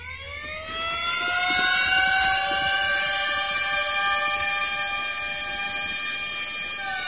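siren wailing

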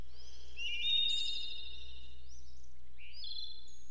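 birds singing

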